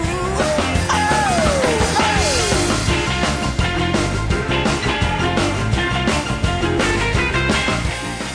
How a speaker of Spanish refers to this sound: Fue el grito ese que... Ese grito fue la chispa, fue la gota que colmó el vaso y que hizo estallar ese fenómeno rock and roll.